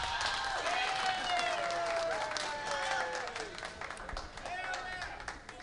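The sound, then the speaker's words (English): A live audience breaks into steady, dense applause, with whoops and rising cheers over the clapping, sustained for several seconds before tapering slightly, in answer to being asked whether Elvis Presley is still alive. “By applause, how many people in here tonight, by applause, believe that Elvis Presley is still alive?”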